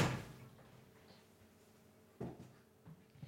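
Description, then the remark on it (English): A door opens and shuts as a child comes home, giving a few soft knocks and thuds spaced a couple of seconds apart, fairly quiet, with no one talking. “Oops, I hear the door.”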